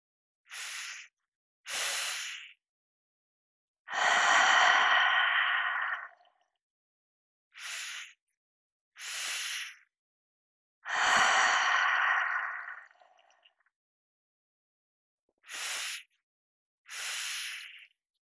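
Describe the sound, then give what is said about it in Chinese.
Deliberate breathing in a guided sighing-breath exercise: two short nasal sniffs, one light and one stronger, then a long, loud sighing exhale through the mouth. The cycle repeats twice, and a third begins with two sniffs. “第六节，叹息式呼吸。动作讲解，鼻吸口呼。吸气分两步，轻吸和重吸。”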